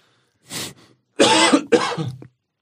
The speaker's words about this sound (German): Husten habe ich übrigens auch.